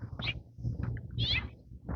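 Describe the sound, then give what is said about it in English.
A house finch, a small bird with purple colouring, calls twice, short bright chirps about a second apart, over steady low rumbling wind noise outdoors. “I think it was a house finch.”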